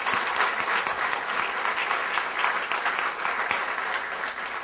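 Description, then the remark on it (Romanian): A church audience claps steadily for several seconds, a dense, even patter of many hands with no voices over it, holding at a fairly constant loudness throughout. “Așteptam niște aplauze așa, dar nu au venit.”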